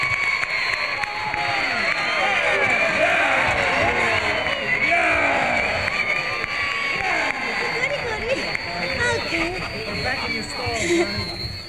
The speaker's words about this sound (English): so would you please join in with us? A warm round of applause, Mr. … and the wonderful … for you.